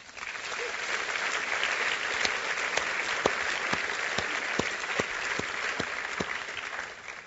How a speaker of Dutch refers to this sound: Oh, nee, wat ik eigenlijk zou willen is dat je gewoon voor deze mensen een applaus hebt.